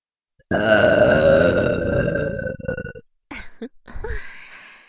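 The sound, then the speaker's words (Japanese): A long, loud, drawn-out burp from two voices at once, lasting a couple of seconds, followed after a brief pause by a few shorter, choppier burps. “それではご奉仕させてくださりありがとうございましたという思いを込めて、同時ゲップをさせていただきます。”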